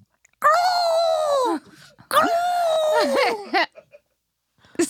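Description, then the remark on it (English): Someone vocally imitates an ostrich call: two drawn-out, wavering, whine-like cries, loud, with a short sputtering sound trailing the second one. “An ostrich, I think, goes.”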